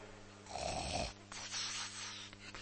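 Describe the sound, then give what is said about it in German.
A single loud, rasping snore rumbles for about half a second, followed by a softer, breathy exhale that trails off. No one speaks. “Brennend im Geist sein ist nicht schnarchen.”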